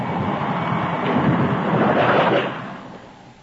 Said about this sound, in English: Hmm, 10 o'clock. Well, I guess there'll be no customers tonight in this downpour. Might as well shut up shop and turn in.